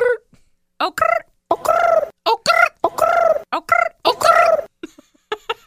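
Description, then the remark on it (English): A person imitates a pigeon's cooing with a run of warbling, throaty bursts, fairly loud, broken by short pauses and a few soft clicks near the end. “It sounds like a cold pigeon in New York City.”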